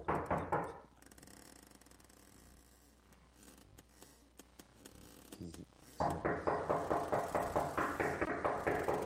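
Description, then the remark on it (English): Loud, rapid knocking on a door in a steady rhythm, a quick burst at first, then a quieter pause before a long insistent run of about a dozen sharp knocks. “Can I answer the door, please?”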